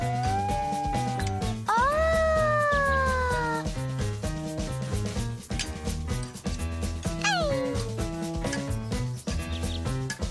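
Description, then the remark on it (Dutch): A cat meows twice, a long rising-and-falling meow followed later by a shorter descending one, both loud and close over steady background music with a light rhythmic beat. “Mijn poes durft niet meer uit de boom, zegt het meisje.”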